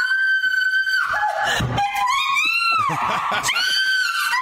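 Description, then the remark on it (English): A woman screams in fright at a cricket she thought was a spider under a treadmill, loud and shrill, holding a long piercing cry that wavers and bends in pitch, breaks off briefly, then rises again for several seconds with no other sound. “reacting to a cricket that she thought was a spider under our treadmill.”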